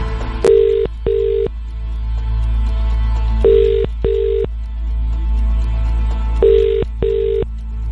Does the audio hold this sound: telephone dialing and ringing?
yes